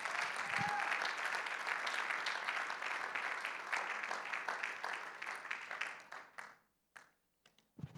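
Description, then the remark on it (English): A church audience claps hands to the Lord during a sermon in a dense, sustained burst of applause, then thins to a few scattered claps and fades out near the end. “Why don't we just clap our hands to the Lord?”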